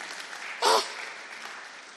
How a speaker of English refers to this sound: Clap your hands for Jesus, somebody.